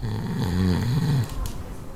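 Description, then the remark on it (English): A sleeping mid-pack rider at Control Point 3 of a bike race snores with a deep, rumbling, throaty rasp, one long drawn-out snore swelling and fading over a couple of seconds, fairly loud and heard alone without talking. “That noise there is precisely why I never sleep at Control Points when I'm racing.”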